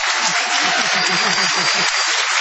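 A dense, continuous roar of wild, unrestrained clapping from the crowd of people present at a party, loud and sustained throughout without any clear break or fade.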